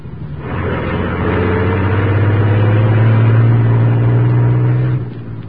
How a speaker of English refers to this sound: As the huge truck rumbled out from the alley, the squad car carrying Moran with Lowry and Axford approached from the main street.